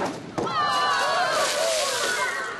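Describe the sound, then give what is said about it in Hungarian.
A sudden loud bang as a water-filled barrel is burst with liquid nitrogen in a science demonstration at the Garden of Sciences and Talents event, followed by rushing, splashing water and a crowd of voices shouting and cheering. “A közönség számára a leglátványosabb kísérlet a vizes hordó robbantása volt folyékony nitrogénnel.”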